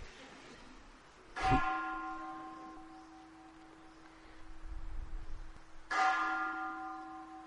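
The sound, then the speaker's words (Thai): A temple bell is struck twice, several seconds apart; each strike gives a sharp metallic hit followed by a long, shimmering ring of layered tones that slowly fades, with a low rumble between strikes. “ฟังเสียงระฆังซิดูว่าจิตไหวไหมเขาเลิกตีไปเลยฟังออกไหมเห็นความไหวของจิตบ้างไหม”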